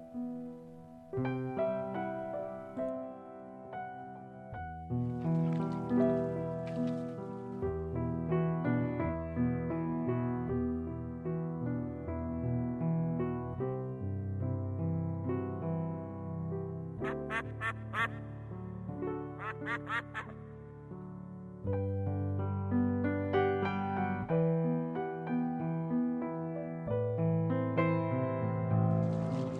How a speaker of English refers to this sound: We'll be taking a short break, a little musical interlude with piano music